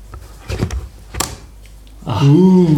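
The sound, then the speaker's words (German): A clip-on keyboard dock unclips from an Android tablet with a few sharp mechanical clicks and a brief rattle, followed by a person starting to speak. “Klipp doch mal auseinander für unsere Hörer, dass die das einfach mal so audiovisuell.”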